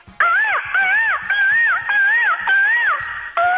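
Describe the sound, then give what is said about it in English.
A man's voice imitates a bird call: a loud, wavering, warbling cry repeated in about six quick rising-and-falling phrases, with no talking. “Yeah, man, that's my bird call.”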